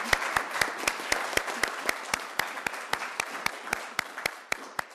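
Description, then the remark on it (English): An audience applauds its speakers steadily, with a dense wash of many hands clapping and a few sharp, regular claps standing out above it. No one speaks over the applause. “And can we please have another big round of grateful applause for our wonderful speakers?”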